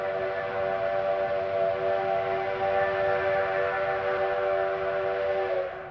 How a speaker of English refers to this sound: A train?